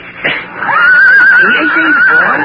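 A horse lets out a loud whinny, a high quavering cry that trembles steadily for about two seconds before fading, with nothing else heard.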